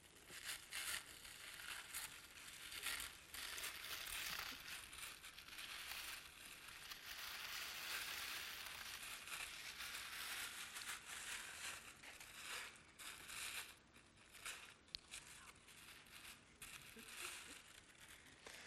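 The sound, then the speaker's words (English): Gold paper wrapping around a Bible is torn and crinkled for nearly twenty seconds, a dense, continuous rustling and crackling with occasional sharper rips and no pauses. “The gold paper reminds us of how valuable the Bible is and what a treasure it is because it guides us in truth and tells us about who God is.”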